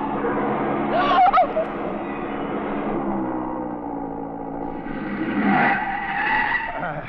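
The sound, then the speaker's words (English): A speeding Porsche's engine roars steadily while its tires screech sharply twice, once early and again near the end, as it skids out of control on a road. “That Porsche ahead, he sees my lights. No, mon pauvre, no, not so fast. Oh, no. He does not know this road.”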